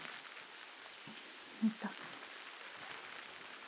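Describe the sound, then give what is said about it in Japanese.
Steady rain that is growing heavier hisses across a broad wash of noise, pattering on a surface, with a couple of brief soft knocks partway through and no voices. “雨も強くなってきましたし、中入りましょうか。”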